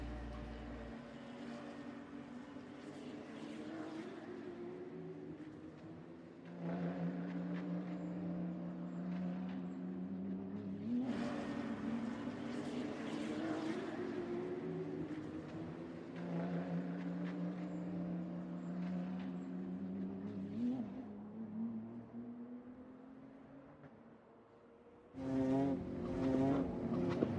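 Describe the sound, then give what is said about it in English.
Mr. Alinda drives Nancy's car in a race against time; the car engine revs hard and accelerates, its pitch climbing and dropping through several gear shifts. The loud roar continues steadily, with no voices, and ends in a fresh burst of revving. “The rest of the news had him drive Nancy's car in a race against time.”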